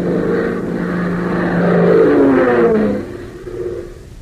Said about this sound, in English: and so opens the throttle wider, sending the beach craft roaring through the late morning sky.